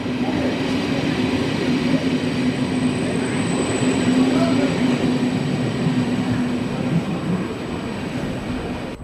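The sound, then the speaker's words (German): A steady, loud rumble of a train fills the railway station in Konstanz, near the border crossing to Kreuzlingen, Switzerland, with a low droning hum and faint murmur of voices in the background, continuous throughout. “Ich bin hier in Konstanz am Bahnhof und nur 5 Minuten zu Fuß.”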